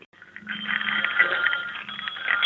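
A pair of saddlebred harness bells made in Connecticut rung together in a steady shimmering jingle, bright and high-pitched with a dense metallic ring that swells slightly and sustains for a couple of seconds.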